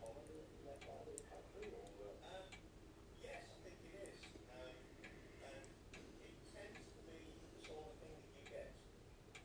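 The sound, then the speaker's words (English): A mechanical clock, which its owner calls his Big Ben and which is due to chime at 11 o'clock, ticks steadily at an even, regular pace, the crisp ticks clearly audible over a low, constant background rumble. “But what I'm going to let you do is hear my clock chime at 11 o'clock, and then I will wind it up.”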